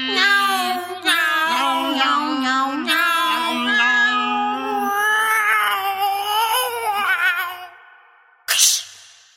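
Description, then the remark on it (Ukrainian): A voice sings long, wavering, meow-like notes, imitating a cat singing in a Ukrainian children's song, over a soft steady backing for about eight seconds. After a short pause, a brief bright burst follows. “Він на вузькому місточку білу киценьку обняв і до ранку у садочку все співав і няу-няу.”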